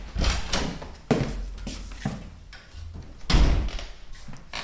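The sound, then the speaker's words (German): The heavy old shop door of a former dairy shop swings shut with several loud thuds and rattles, the strongest impact near the end, followed by a brief settling clatter. “Das ist ein ehemaliger Milchladen und die Tür ist relativ schwer.”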